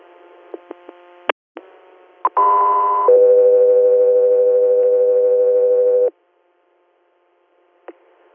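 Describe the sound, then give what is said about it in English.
Radio dispatch alert tones paging an air medical unit: a few sharp clicks, then a short high steady tone jumping straight into a longer, lower sustained tone lasting several seconds, loud and clear, followed by silence and a faint click. “Go 3 Air, stand by for tones.”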